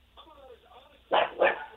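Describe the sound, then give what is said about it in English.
A dog barks twice in quick succession, loud and sharp, in the background of a radio call-in caller from East Meadow, heard over a thin telephone line just after a faint stretch of muffled talking. “Turn the TV down, turn the radio down, turn the dog down.”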